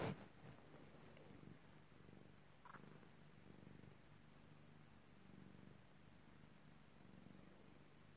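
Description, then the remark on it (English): A cat purrs steadily, a soft continuous rumble with gentle rhythmic pulses over quiet background hiss, no voices present. “So, sorry for being so quiet, but you can hear my cat purring.”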